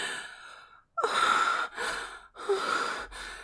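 A quick run of four breathy gasps, each a sharp airy intake with a hissy, rasping edge, following a softer breath. No words are spoken.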